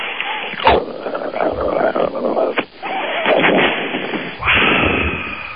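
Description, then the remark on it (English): A voice imitates a bong hit, including the carburation, making a loud, rough gurgling and bubbling noise broken by a few sharp bursts, then a steady breathy rush toward the end. “Let's hear a bong hit, and I want to hear the carburation.”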